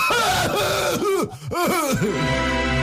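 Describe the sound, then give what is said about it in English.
A voice mimics a coughing fit with a loud run of strained, throaty cough-like bursts in quick succession, trailing off into a low groan. “But in the middle of this, someone gets a coffin fit.”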